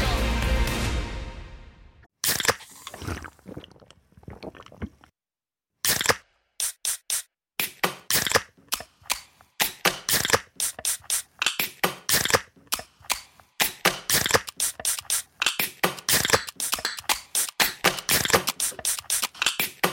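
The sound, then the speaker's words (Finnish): A can of Karhu, a Finnish beer, cracks open with a sharp snap and a fizzing hiss, followed by a fast, rhythmic run of crisp clicks and pops, fairly loud, with no talking. “Suomalainen äänen avaus. Ja suomalainen olut.”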